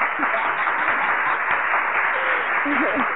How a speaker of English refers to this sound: So I just have to say thank you, Lord, on today for continuing to bless me when I didn't want to get up and do the show when I was feeling some type of way. So big round of applause for that.